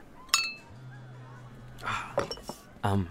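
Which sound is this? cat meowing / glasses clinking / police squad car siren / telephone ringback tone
glasses clinking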